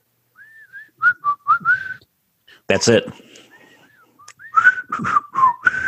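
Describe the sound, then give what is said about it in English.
A person whistles a short melodic tune from a famous old TV show's opening theme in several rising and falling phrases, with a brief burst of speech and laughter in the middle before the whistling resumes, moderately loud. “Can you whistle that theme?”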